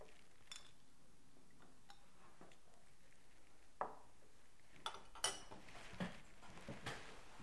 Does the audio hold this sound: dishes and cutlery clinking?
yes